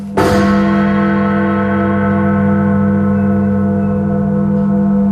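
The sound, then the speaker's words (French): A single heavy strike of an old clock tower bell in London, whose 156-year-old clock mechanism is balanced by adding or removing old pennies, loud and deep, followed by a long, steady ringing hum that slowly fades over several seconds with no voices. “Vous enlevez ou rajoutez quelques vieux pennies pour trouver l'équilibre parfait du mécanisme de l'horloge.”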